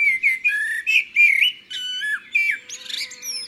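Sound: bird singing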